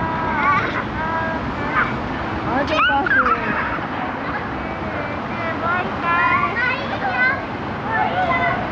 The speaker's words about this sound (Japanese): 広場では子供たちが鬼ごっこをしています。